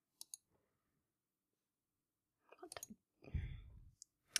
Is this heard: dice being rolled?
yes